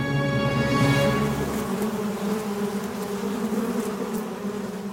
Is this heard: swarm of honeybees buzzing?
yes